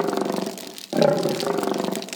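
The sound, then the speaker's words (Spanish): Lions roar loudly, a deep rumbling growl that fades, then a second powerful roar bursts in right after and carries on without pause. “Rugieron los leones.”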